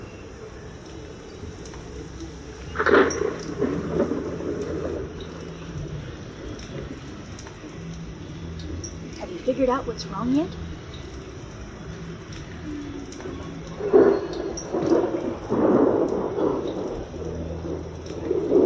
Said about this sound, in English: Yes, there was wind and thunder. And of course, frying bacon.